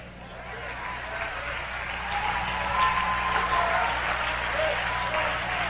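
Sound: audience clapping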